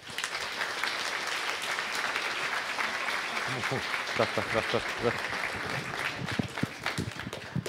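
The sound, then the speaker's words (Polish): A sustained round of audience applause at a conference after a presentation, dense and steady throughout, with a voice briefly audible over the clapping partway through. “No i ja miałem powiedzieć brawa”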